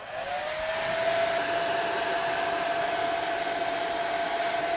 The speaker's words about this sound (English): if Olivia could turn on the hairdryer and keep it in one place on the polythene bag